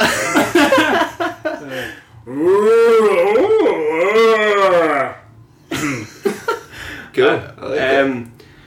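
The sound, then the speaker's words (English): Human voices imitate two cows making love, letting out a long, wavering, drawn-out moo that swoops up and down, loud, with brief bursts of talking and laughter before and after. “I want the best impression possible of 2 cows making love.”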